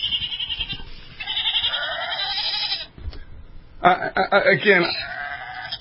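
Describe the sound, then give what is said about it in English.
Sheep bleating played from a small electronic birthday greeting card as it is opened, tinny, with long wavering bleats in two bursts separated by a brief pause. “I'm so happy about this card that I had to share with all my friends. Talking about sheep, all right?”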